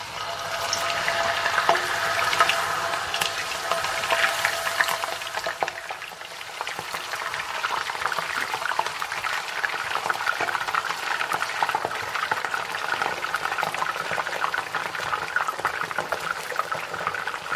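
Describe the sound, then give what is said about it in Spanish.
Cut potatoes being added a few at a time to very hot, boiling oil in a frying pan: a dense, steady crackling sizzle with sharp pops and spatters throughout, fairly loud, with no one talking. “Vamos a echar las patatas y dejémonos de tanta charla. Bueno, ahora cuidado porque realmente salpica muchísimo, ¿vale?”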